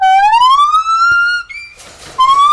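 A pair of blonde-colored gibbon apes calling at an exotic animal sanctuary on a 10-acre plot in Greenwood, Missouri, with loud, rising, siren-like whoops that swoop upward in pitch, broken by a brief burst of rougher, breathy calling before another rising hoot begins.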